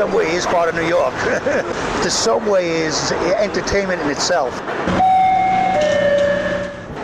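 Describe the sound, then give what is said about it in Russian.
A New York subway train rumbles loudly while voices chatter over it, then a sustained, high-pitched metallic whine rings out for the last couple of seconds. “Тот, кто хочет по-настоящему узнать Нью-Йорк, должен спуститься в подземку.”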